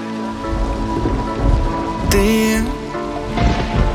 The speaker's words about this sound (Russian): Дождь, падают капли с неба на крышу, на мокрый асфальт.